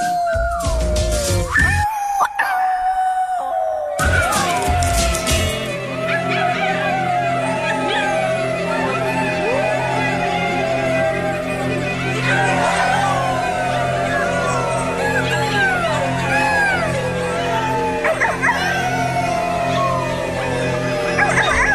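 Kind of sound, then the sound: animal, wolves howling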